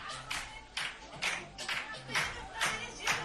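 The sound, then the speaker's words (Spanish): Real Madrid dressing room celebration: a group claps in a steady, loud rhythm, roughly two claps per second, while voices shout and chant together underneath. “Por cierto, ¿quieres escuchar cómo ha sonado el vestuario del Real Madrid?”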